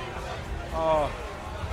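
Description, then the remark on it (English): Steady outdoor crowd murmur on a hot day, with overlapping indistinct voices and a low rumble throughout, and one brief higher-pitched call rising out of the babble midway through. “All right, yeah, so we picking up the crowd noise now.”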